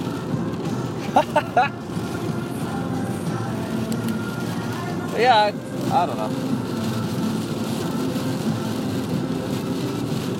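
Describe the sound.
Fine rain, finer than the hard-hitting downpour a minute before, falls in a steady, soft, even hiss that never lets up, while a person speaks briefly over it a couple of times.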